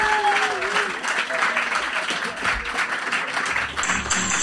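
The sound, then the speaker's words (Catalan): A crowd applauds loudly and steadily for several seconds, with dense clapping, scattered cheers and a brief whistle near the start. “Sí, un fort aplaudiment per mi!”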